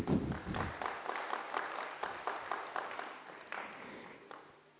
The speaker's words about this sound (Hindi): इसके लिए तालियां बजा दीजिए।